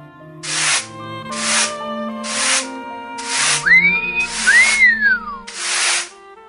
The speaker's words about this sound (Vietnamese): Các thợ mộc đang làm việc ở đây. Một thanh niên trẻ vừa huýt sáo vừa đang bào gỗ.